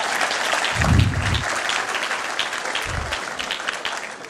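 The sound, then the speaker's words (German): Steady applause from a crowd for a young man, dense clapping spread across the whole clip with a couple of low thumping bursts underneath. No one speaks. “Applaus für diesen wunderbaren jungen Mann, ich danke dir.”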